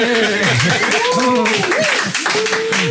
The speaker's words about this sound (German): Also ich nehme Laola. Wäre doch angesagt. Laola oder... Und auf jeden Fall brauchen wir gleich dann einen tosenden Applaus.